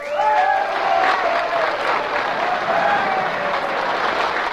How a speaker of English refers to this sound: She touched her lips with her hands, and with tears in their eyes, the miners thundered their applause.